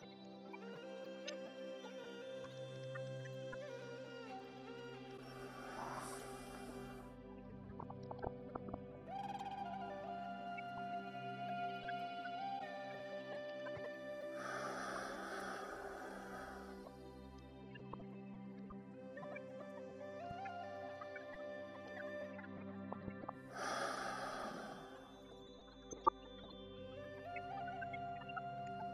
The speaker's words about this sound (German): Wir holen nun dreimal ganz tief Luft, atmen vollständig ein, halten den Atem und atmen vollkommen wieder aus.